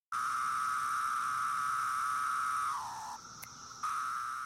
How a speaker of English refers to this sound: Fall may be in full swing, but this summer was the summer of cicadas. After spending the last 17 years underground, millions of periodical cicadas emerged in southern Wisconsin.